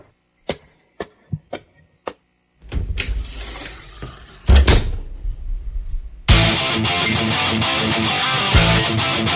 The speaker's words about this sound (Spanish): Manu Jiménez abre la puerta de la sala de autopsia.